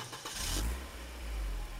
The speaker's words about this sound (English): I'm in my rental car, and I'm heading back to the airport.